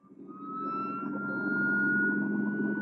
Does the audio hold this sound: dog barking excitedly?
no